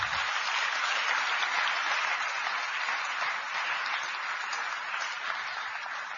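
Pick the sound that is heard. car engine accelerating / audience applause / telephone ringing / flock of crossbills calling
audience applause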